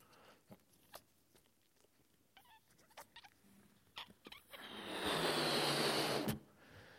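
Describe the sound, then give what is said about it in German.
A balloon is blown up: scattered soft rubbery clicks and scrapes, then a loud, steady rush of breath into it for about a second and a half, stopping abruptly. No one speaks. “Dann ist es also so, wie der Luftballon jetzt gleich, wenn es klappt.”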